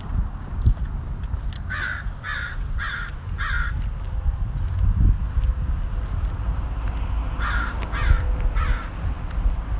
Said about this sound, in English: He's on the rock shop. There he is, the Dawson crow.